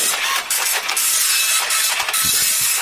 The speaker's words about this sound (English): Let's see what's coming out of the printer. Rip it off when it's finished printing. Rip it off.